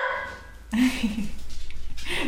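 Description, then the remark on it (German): A guard dog barks in a quick, rapid run of short repeated yaps that begins suddenly after a moment of near quiet and keeps going to the end. “Ist ein ganz, ganz guter Wachhund.”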